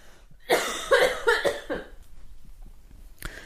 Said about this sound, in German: Ich muss ganz kurz ganz laut husten, warte.